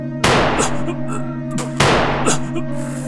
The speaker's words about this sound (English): You shot my ankles!